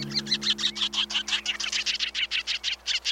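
A sanderling, a sandpiper, gives a rapid, steady series of short, sharp chirping calls, about six per second, clear, over a faint low background hum.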